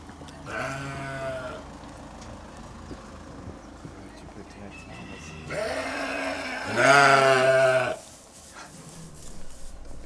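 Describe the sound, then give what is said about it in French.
Sheep bleat several times on a farm, kept with cattle in part of the farm instead of their usual pasture, with two long wavering calls standing out, the second louder, over a faint outdoor background with no talking. “Donc là, on est une partie de la ferme, les moutons, le bœuf, etc.”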